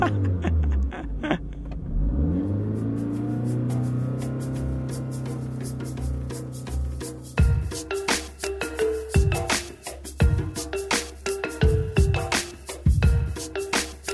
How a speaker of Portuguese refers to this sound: Ele roubou o carro do pai e foi para a estrada, apesar de não ter carta de condução.